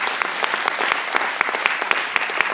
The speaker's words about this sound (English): Can we just give a round of applause for the praise and worship?